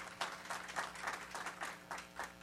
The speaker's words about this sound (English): I appreciate the applause, even if it's like a Democratic convention. You kind of know who's going to applaud at what and who's not going to applaud at something else.